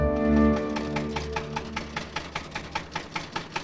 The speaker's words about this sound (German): Mit dem Trecker.